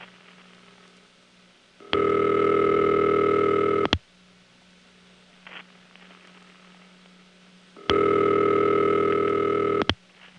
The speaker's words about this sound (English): Here's a call to a New Jersey Crossbar 1. We'll listen to the ringtone via Garden City to another 4A in New Jersey, and while the trunk has fuzzy noises added, the ring itself is coming through pretty clearly.